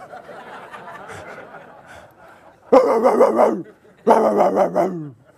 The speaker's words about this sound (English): That is a pit bull monster mix of a dog.